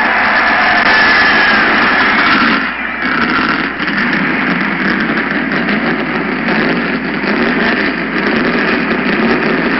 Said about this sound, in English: Gentlemen, start your engine!